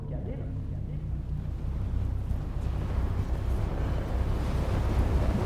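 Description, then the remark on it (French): A raging storm of wind and sea roars continuously, a dense, loud rumble of gusts and surging water that swells slightly stronger toward the end, with no pauses. “La tempête faisait rage.”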